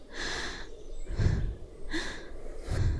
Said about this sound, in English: The rhythm of my heavy breathing.